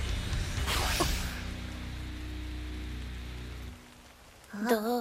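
Steady rain falls with a constant hiss over a low rumble, easing slightly near the end, where a brief wavering tonal sound rises over the quieter patter.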